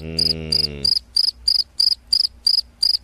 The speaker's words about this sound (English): You know, no, what, those crickets would indicate that I have yet to hear back from Jay of … Management, which means one of a couple possible things.